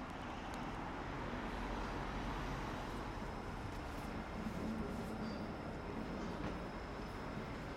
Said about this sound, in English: Right, I've made it to the train station. Alexandra Palace, aka Ali Pali.